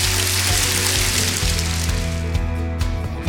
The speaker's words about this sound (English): Thank him with a clap offering, would you?